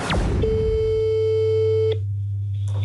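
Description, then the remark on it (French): A telephone ringing tone heard down the line as Élise Lucet of France 2's Cash Investigation calls Dominique Strauss-Kahn, before voicemail: one steady electronic tone holds for about a second and a half, then cuts off, over a low constant hum, with no voices. “Élise Lucet s'est rabattue sur son téléphone.”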